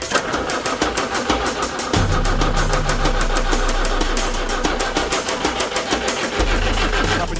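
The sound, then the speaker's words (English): A small pump engine, with hoses connected to three rams, is started by switching the ignition on and pressing a button. It cranks and catches, then runs with a rapid, steady clattering beat and a low droning hum that swells in partway through. It stays loud throughout, with no voices. “Ignition on, press the button.”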